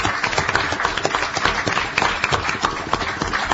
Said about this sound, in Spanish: Bueno, ¿quién aplaude? ¿Nosotros a ellos o ellos a nosotros? Todos a todos. Todos a todos. A ver, para que se escuche.